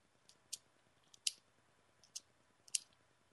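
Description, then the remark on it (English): Several sharp, bright clicks sound at uneven intervals, about four distinct snaps with a couple of fainter ones between, crisp over a quiet background with no talking. “Stop clicking.”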